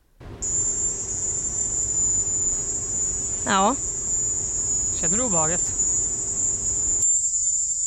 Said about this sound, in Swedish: Jag tycker det låter lite som såna här cikador typ. Alltså någon slags syrsa.